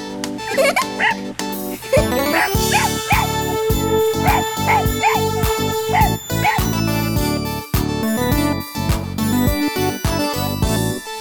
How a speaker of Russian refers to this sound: Щенок, щенок, смотри, щенок!